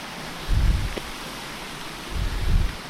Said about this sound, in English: the sound of the water's dying away behind us now. We're running parallel with the stream, it's on my left. Quite pretty. It's about 7 or 8 feet wide